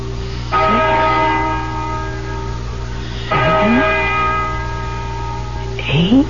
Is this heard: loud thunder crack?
no